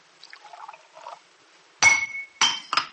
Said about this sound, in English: The glass, it slipped from my hand. For a moment, I had no feeling in my fingers.